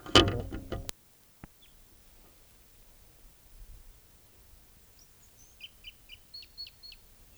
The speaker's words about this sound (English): Wild bird.